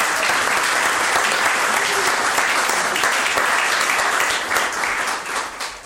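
Steady, loud applause from a crowd at a celebration of a person fills the whole stretch, a dense wash of many hands clapping that holds even before thinning slightly toward the end.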